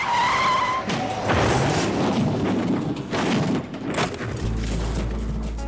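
Tires squeal sharply, then a passenger car's engine roars as it suddenly accelerates, with loud rushing noise and a couple of heavy thuds as it hits a man standing at the roadside, ending in a low rumbling hum. No one speaks.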